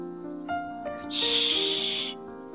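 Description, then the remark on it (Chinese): A single drawn-out shushing hiss, loud and close, lasting about a second over a soft, steady musical background with no talking. “嘘，”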